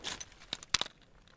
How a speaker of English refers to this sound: The first crack in the ice when it starts to melt, it's a very kind of high pitched little clink, and these rocks are quite high pitched. I liked the sound actually, so I stopped and so that I could hear it.